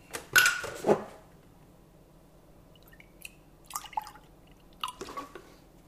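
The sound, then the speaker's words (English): A small amount of milk pours briefly into a jug at the start, a splashy liquid rush lasting under a second, followed by quiet and a few faint drips and light clinks. “So what I'm now going to do is just pour a little bit of milk into this jug.”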